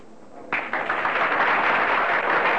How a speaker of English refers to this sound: Slowly walking out on the stage, … bows slightly to her applauding audience.